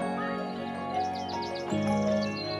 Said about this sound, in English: On the surface, birdsong is simple. It's a pleasing wash of sound that just happens in the background. But if you stop and listen, you might find a deeper meaning.